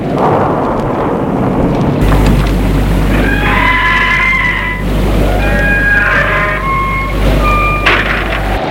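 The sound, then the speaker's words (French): A horse neighs several times as Luc enters a château's grounds with it, high, drawn-out whinnies rising over a steady, loud wash of rain or rumbling noise. No one speaks. “Luc entre avec son cheval.”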